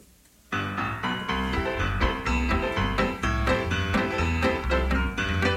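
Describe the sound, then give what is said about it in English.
A brisk military march strikes up after a brief moment of quiet, loud, with a steady oom-pah bass beat under bright band melody and no voices. “This is a song just for you, Under the Double Eagle.”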